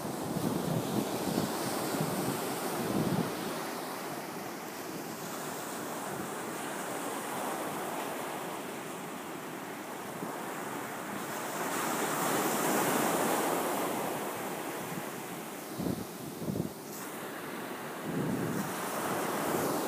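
Ocean waves wash steadily onto a beach, a continuous hissing surf that swells and recedes, with occasional low wind gusts buffeting the microphone and no voices.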